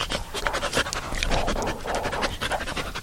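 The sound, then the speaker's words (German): A dog being trained as a guide dog for the blind pants rapidly and steadily, quick breathy huffs repeating in a continuous rhythm, fairly loud and alone with no talking. “das Gehechel war der Hund Braum”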